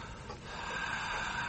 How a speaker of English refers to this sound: They're breathing.